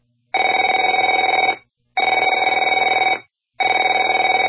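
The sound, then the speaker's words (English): A telephone rings in three long bursts, each about a second and a quarter with short pauses between, a bright trilling electronic tone repeating in a steady pattern with no voices. “Afraid to answer it?”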